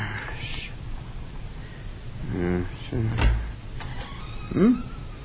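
A broken door creaks and squeals through a few drawn-out groans as it swings, with a final higher whine near the end, over a low murmur of background noise.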